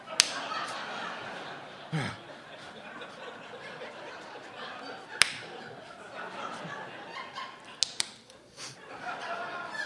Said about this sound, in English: Oh, good. You're awake. You can stop slapping me now.